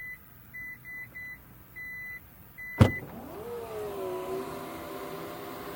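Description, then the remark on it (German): The power tailgate of a Torres SUV opens by itself when someone stands behind it with the key in a pocket: a string of short, high electronic beeps in an uneven rhythm, then a sharp clunk as the latch releases, followed by a steady motor whir of the tailgate lifting. No one speaks. “Coole Sache, der Torres erkennt, wenn ich hinter ihm stehe und den Schlüssel in der Tasche habe und wenn ich einige Zeit hinter der Klappe stehe, dann macht er die einfach auf, weil ich könnte ja drei Wasserkisten in den Händen halten.”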